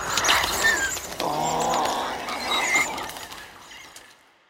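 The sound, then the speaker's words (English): High-pitched small-dinosaur squeaks and squeals made from higher-pitched bird sounds and pitched-up lions, a run of overlapping chirpy, slightly raspy calls, fairly loud, trailing off into quiet at the end. No one speaks. “But in this case, you're choosing higher pitch sounds, bird sounds, and even taking pitched up lions so that you don't have any more of that big weighted growl.”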